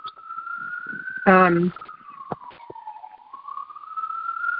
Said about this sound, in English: Sorry, there's a siren in my neighborhood.